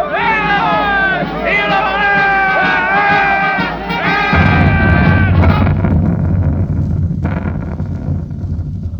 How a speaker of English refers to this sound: Listen. Soldiers. They're marching this way. The crowd cheering. For what?